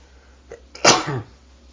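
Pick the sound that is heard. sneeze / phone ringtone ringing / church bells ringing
sneeze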